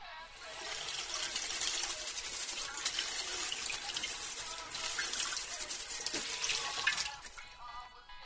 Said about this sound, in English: you can just run a banana under the tap?